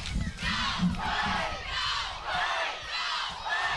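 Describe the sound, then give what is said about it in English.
A football crowd at a Sandusky game against the Bearcats cheers and chants in loud, rhythmic surges, about five swelling pulses of massed voices over a low, steady rumble, on a fall night in the first week of September. “Fired up Sandusky sideline, good crowd, beautiful fall night here.”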